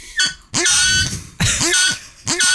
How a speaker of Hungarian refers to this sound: Figyelj, ez a klasszik műanyag rózsaszín malac. De ez remek mű, mert a hangja, ez tényleg az volt a reggeli éhes disznó.